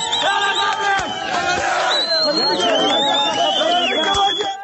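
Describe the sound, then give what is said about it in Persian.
A large crowd of protesters in Marivan, Iran, shouts the protest slogan "Woman, Life, Freedom" together, many voices overlapping in loud, rhythmic chanting with rising and falling cries, plus a couple of sharp bangs cutting through the din. “اینجا مریوان و فریاد شعار مشهور اعتراضات سراسری.”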